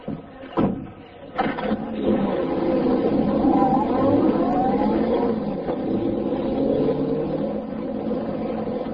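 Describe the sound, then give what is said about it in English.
A couple of sharp thuds like a car door shutting as Britt Reed steps into his convertible, then its engine turns over and rumbles steadily, revving loudly as it drives off, with no talking. “Then he stepped into his convertible.”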